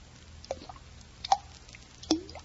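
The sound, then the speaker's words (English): Three separate water drips land at uneven intervals, each a short, resonant plop with a gliding pitch, against a quiet, faintly humming background. “Now what? Something's dripping.”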